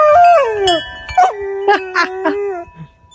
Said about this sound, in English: this golden retriever singing with the wind chimes